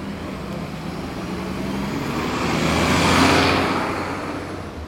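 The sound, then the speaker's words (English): Steady roar of city street traffic on State Street near a campus on a cold winter day, with a vehicle swelling louder as it passes by around the middle, then fading back into the continuous rumble of cars and buses. “Everyone's exhaling small white puffs from their mouth as they stroll on State Street near campus or wait for a bus.”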